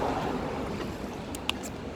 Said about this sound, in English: And how you probably can't hear me because of traffic and wind. This is a very, very busy road.